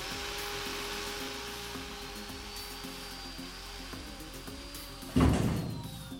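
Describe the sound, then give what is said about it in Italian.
Thieves use a jackhammer to break through the thick wall of a basement fallout shelter: it grinds steadily with a droning whine and rhythmic low pounding, then a sudden louder burst of crumbling breaks through near the end. No one speaks. “Sfondano il muro con un martello pneumatico.”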